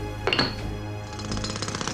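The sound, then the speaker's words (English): A pneumatic drill rattles in a rapid, steady burst of hammering pulses, starting after a couple of sharp knocks and continuing at moderate loudness with no voices. “A digger outside your house.”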